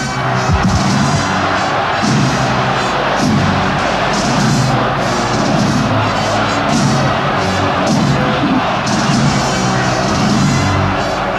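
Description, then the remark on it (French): A large crowd along Franco's funeral procession route in Madrid chants Franco's name and cheers together while waving handkerchiefs in farewell, a dense, loud roar of many voices that rises and falls in steady waves for the whole stretch, with occasional sharp bangs and shouts. “Et tout le long du parcours, la foule encore, agitant des mouchoirs en signe d'adieu et scandant le nom de Franco.”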